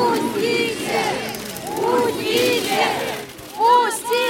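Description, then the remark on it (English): Hundreds of people in line at Navalny's memorial in Russia, shut out when guards closed the cemetery gates at 5 o'clock, scream and shout "let us in" at once, many voices overlapping in a continuous loud clamor, with a sharper burst of yelling near the end. “People are still coming. They're screaming, let us in.”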